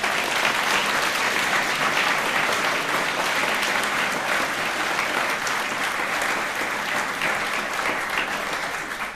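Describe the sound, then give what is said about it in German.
A big round of applause from a crowd for the kitchen crew, dense steady clapping that stays loud for the whole stretch and only eases slightly at the very end, with no talking over it. “Also großen Applaus für die Küche bitte.”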